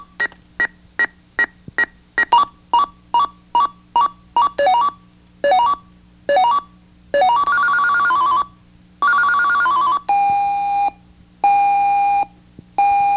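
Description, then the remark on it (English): An alarm clock radio in setup mode steps through its alarm sound options: rapid electronic beeps, then rising chirps, then longer warbling bursts, each pattern shifting to the next. Loud, with no one talking. “Set alarm sound. All right, you want to hear all the alarm sounds, don't you?”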